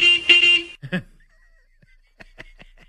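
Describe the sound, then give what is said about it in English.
A single loud, buzzy horn honk from a shuttle bus driven by Stidham around the stadium, lasting under a second, followed by a brief vocal sound and a few faint clicks and taps in an otherwise quiet moment. “Beep, beep, beep. Beep, beep.”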